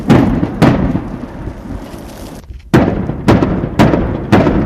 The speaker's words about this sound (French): Périodiquement, le son des combats qui se déroulent à plusieurs kilomètres se fait plus précis.